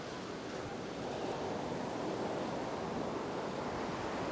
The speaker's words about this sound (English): Swimming in the ocean is a great example of this, where the waves are coming at you.